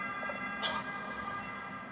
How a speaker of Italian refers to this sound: Vedi, già mi viene a prendere l'ambulanza.